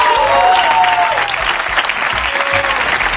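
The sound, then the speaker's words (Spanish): Steady applause from a crowd, a dense, loud wash of many hands clapping that fills the whole clip, with faint tonal sounds and murmurs underneath. “Un aplauso.”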